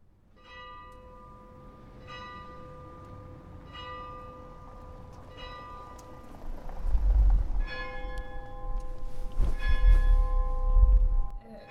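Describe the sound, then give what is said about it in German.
Church bells ring out in a steady series of resonant, overlapping strikes, with a low rumble building underneath as more bells join in, growing louder toward the end. “Sind es die Kirchenglocken?”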